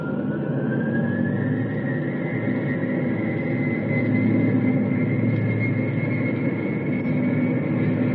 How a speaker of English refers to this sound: My craft half out of Bombay. All the way out of Bombay now. Trapeze fully extended. Starting engine.